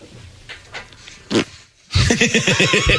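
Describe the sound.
A short, soft mouth-made fart sound, a voice imitating a tiny toot, sputters out after some faint rustling, then loud, pulsing laughter erupts.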